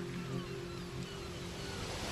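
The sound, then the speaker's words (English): Steady ocean surf washes continuously, a broad hiss of breaking waves with a low rumbling undertone, moderately loud and unbroken throughout. “Now, focus all of your attention on the sound of my voice and the sound of the sea.”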